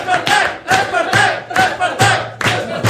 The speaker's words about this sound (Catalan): Doncs va, rebem un fort aplaudiment.